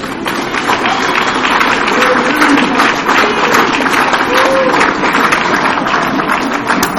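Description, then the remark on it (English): Steady audience applause for two speakers at a meeting, a dense wash of many hands clapping at an even, loud level throughout, with faint murmurs of voices mixed underneath. “Give both of our speakers a big round of applause, please.”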